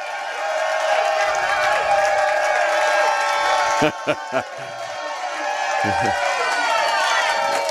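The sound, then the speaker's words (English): A packed sellout crowd cheers and shouts continuously at a Kansas City Chiefs playoff radio show held at the Hy-Vee grocery store on Shawnee Mission Parkway in Shawnee, filling it back to the vegetables; a dense wall of overlapping voices at steady loudness, with a couple of brief sharp thumps partway through. “We've got a sellout crowd going all the way back to the vegetables, baby.”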